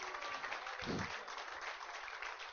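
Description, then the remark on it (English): An audience claps steadily for the Lord, a dense wash of many hands filling the whole clip with no pauses, with a brief low thump partway through. “Give the Lord a clap and Hallelujah.”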